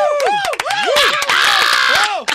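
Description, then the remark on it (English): A loud audience cheers and yells after a song performance, many voices shouting and whooping over one another in rising and falling cries, with someone yelling "encore" and a swell of brighter, massed shouting in the middle before it thins out. “Who yelled encore?”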